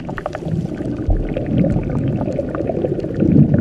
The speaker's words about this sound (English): So, why does the river boil?